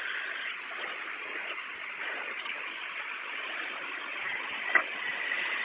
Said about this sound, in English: Okay, I'm going to turn the engine back on, and I'm going to have the doors closed. I'm going to start it right now.